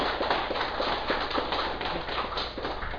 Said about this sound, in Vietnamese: Cho nên quý vị cũng vỗ cho mình một tràng pháo tay.